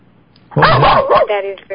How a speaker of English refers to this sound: Oh, that's your dog. Oh my God, that was loud. Scared me. Is that your dog? Yeah, they're with me barking.